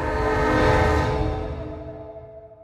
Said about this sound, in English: If they don't sort this and move on, soon there'll be another train from Glasgow coming down the tracks and it will barrel right into them.